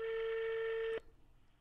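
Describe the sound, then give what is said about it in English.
A single steady European phone ringing tone on a call to someone in Europe, a clear mid-pitched beep heard through a phone line, holding for about a second before cutting off into quiet line hiss. “It's a European ring.”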